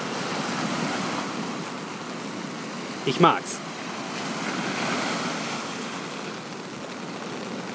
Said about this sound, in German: Das Meer hier ist kein Ponyhof. Auch das Wetter nicht. Es regnet heute den ganzen Tag. Und ja, die Wellen hört ihr ja selbst. Ne? Die haben es in sich.